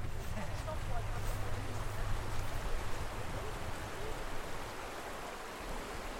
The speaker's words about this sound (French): Alors là, on entend un genre de rivière. C'est dur à dire. Je pense que c'est l'eau des glaciers qui descend, parce qu'il y a un énorme glacier un peu sur notre droite, au-dessus de nos têtes.